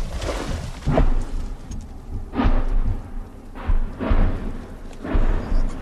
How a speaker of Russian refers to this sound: Вот только что по этому участку начала работать артиллерия противника, реактивные системы, был слышен выход с танка